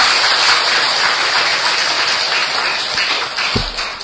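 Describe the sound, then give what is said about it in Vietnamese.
An audience claps steadily to applaud themselves, a dense wash of many hands applauding together that holds at a fairly even level before easing slightly near the end, with no voices over it. “Nếu quý vị cảm thấy rằng là mình làm được thì xin dành tràng pháo tay để tự hoan hô mình.”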